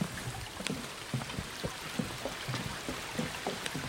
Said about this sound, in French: Et là, le clapotis de la rivière, où je vais me baigner.